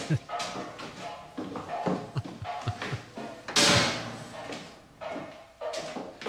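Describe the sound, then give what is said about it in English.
A man bangs a pot in his room, repeatedly and in an irregular rhythm of dull thumps and clanks, with one louder, sharper crash midway, set against a muffled voice in the background. “He's just banging a pot in his room.”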